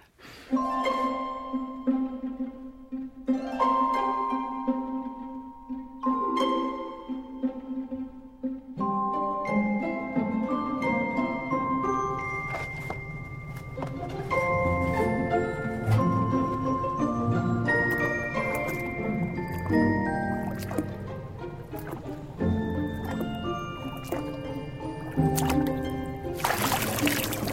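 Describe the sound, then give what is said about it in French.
Human voices imitate ocean waves in a scene from the film Ponyo, layering sustained hums and tones with breathy, rushing swells that build into a dense, continuous wash of sound. No words are spoken. “Écoutez cette première rencontre, écoutez le bruit des vagues qui, de toute évidence, est fait avec une voix humaine.”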